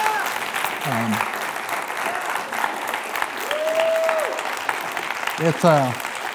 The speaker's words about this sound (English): And give our academy staff a hand clap. They did a great job.